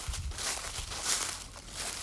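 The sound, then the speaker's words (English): Footsteps of a person walking crunch through a deep carpet of dry leaves in the woods of a nature conservancy property in Northampton County on a cool, wintry morning, a steady rustling crackle with soft thuds at each step. The crinkling is fairly quiet and continuous, with no voices. “It was a cool, wintry morning and the woods were quiet except for the sound of my own footsteps in the deep carpet of dry leaves.”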